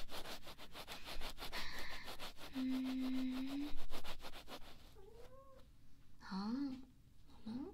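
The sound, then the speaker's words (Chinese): A cat meows a few times while playing, short rising-and-falling cries, over a steady rhythmic rubbing and scratching texture that runs throughout. “猫咪玩得很开心呢”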